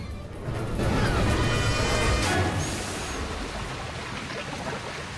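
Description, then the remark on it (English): A loud rush of liquid swirls and flushes down a hole in the center of a room like a giant toilet, building quickly, then a sharp splash cuts through around the middle before the churning wash continues steadily to the end. “From above, it looks like a giant toilet, the liquid flushing them down a hole in the center of the room.”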